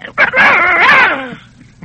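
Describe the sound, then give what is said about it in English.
A voice performer imitates a little dog barking for a character: a quick yip, then one longer, high-pitched, whiny bark with a wavering pitch. It is fairly loud, with no other sound around it. “This is like a little dog would say. I'm a little dog, and this is the voice I would give to him.”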